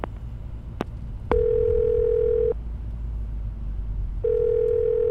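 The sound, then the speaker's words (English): A telephone call to the Baltimore Special Investigation Section, placed by voice command, rings out: a couple of faint clicks, then two long, steady mid-pitched ringback tones separated by a pause, over a low rumbling background hum. “Calling Baltimore Special Investigation Section.”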